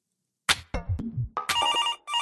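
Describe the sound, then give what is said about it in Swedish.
A few quick clicks and thumps, then an electronic phone ring tone sounds clearly in two bursts with a short gap between them as a call is placed to a Björklöven J20 ice hockey player, with no voices. “Nu har vi fått en bra start och vi tänkte ringa upp J20s och Björklövens Axel Blom för att stämma av det här lite närmare.”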